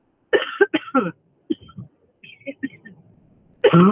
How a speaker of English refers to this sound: Ooh, coughing on the interview, that's embarrassing. Well, time stamp. Sorry, I really just am recovering from severe allergies, apparently. At least that's what we're going to hope for. So you might hear some coughing throughout this interview.